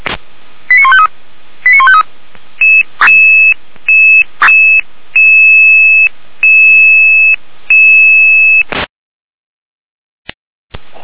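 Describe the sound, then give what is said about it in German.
A loud electronic alarm tone over a narrow radio-like channel, sounded for two fallen trees on a road near Heutelstedt and Berlstedt, Germany: two quick warbling tone bursts, then about eight steady evenly spaced beeps, followed by silence and a brief click. “Alarm.”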